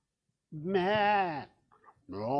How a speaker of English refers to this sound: Then Samuel said, then why am I hearing sheep and cattle?